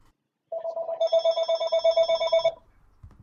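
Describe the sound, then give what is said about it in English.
A telephone rings with a rapid warbling trill for about two seconds, loud, its pulses repeating quickly before cutting off abruptly into near silence. “Whose phone is that?”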